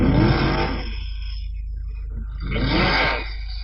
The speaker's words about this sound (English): as Goggin dumps the clutch on the big 7-litre Camaro. John Leinster waiting. Goggin back to the burnout.